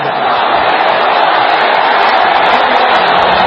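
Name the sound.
crowd chanting and cheering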